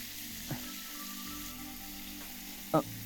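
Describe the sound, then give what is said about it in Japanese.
Shower water from a shower head fixed up high sprays in a steady, even hiss throughout, broken by two brief soft knocks, the second a little louder, near the end. No one speaks. “シャワーを上に固定しますね。”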